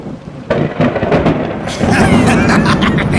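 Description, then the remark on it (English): Deep rumbling thunder of an approaching storm rolls in loud, swelling into a broad crackling roar with a hiss like heavy rain underneath. “At last! The storm is on its way!”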